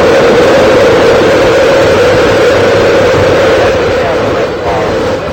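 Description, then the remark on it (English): The main engines of America's first space shuttle roar at launch after the countdown, a loud, steady, dense rumble filling the whole stretch without letting up, with a faint trace of background voice mixed into the noise. “We've gone for main engine start. We have main engine start.”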